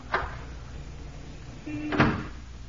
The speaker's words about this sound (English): Now then, French doors to her living room. Hmm? Conveniently unlocked, too.